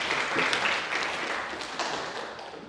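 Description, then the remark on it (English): An audience claps steadily for a few seconds, a dense wash of many hands with scattered sharper claps standing out, holding fairly even before easing slightly at the end. No one speaks. “Don't clap, throw money.”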